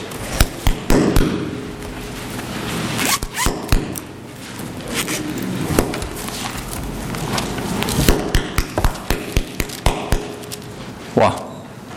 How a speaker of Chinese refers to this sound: 谁在为我鼓掌呢？